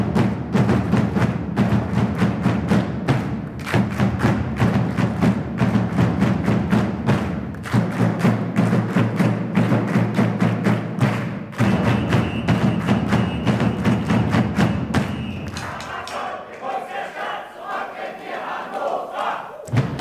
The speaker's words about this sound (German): Impuls der Stadt, so heißt der Motivationsbeat, der im nächsten Jahr beim 30. Marathonjubiläum bestenfalls überall in der Stadt zu hören sein wird und alle Läufer ins Ziel trägt.